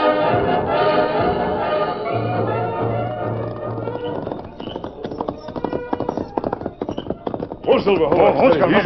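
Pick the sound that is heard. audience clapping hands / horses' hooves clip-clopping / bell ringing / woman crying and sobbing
horses' hooves clip-clopping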